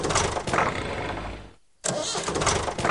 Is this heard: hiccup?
no